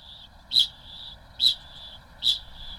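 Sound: kakapo parrot call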